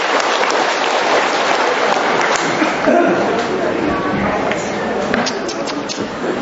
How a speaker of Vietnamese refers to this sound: Chúng ta cho một tràng pháo tay hoan hô tất cả những câu trả lời.